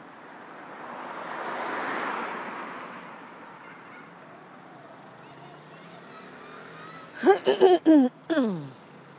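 Several sharp, nasal honks from Canada geese burst out in a quick cluster near the end, heard during a walk, following a long stretch of soft, rushing wind noise.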